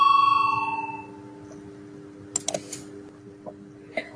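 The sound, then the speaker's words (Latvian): A parliamentary voting bell rings once before a vote on a proposal, a clear electronic chime that fades within a second, followed by scattered sharp clicks like button presses over a steady low hum, with no talking. “Lūdzu, zvanu, balsosim par pirmo deputāta Pimenova iesniegto priekšlikumu.”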